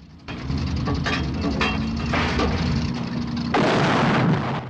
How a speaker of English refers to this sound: Craig fires a shell, blowing up the whole anti-aircraft placement. Ready. He fires another, blowing up a fuel truck.